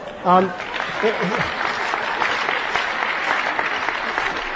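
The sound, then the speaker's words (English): An audience breaks into sustained applause for a questioner or the speaker, a dense, steady wash of many hands clapping at an even level, with a brief voice heard at the start before the clapping takes over. “I don't know if you're applauding the questioner or me, but who cares?”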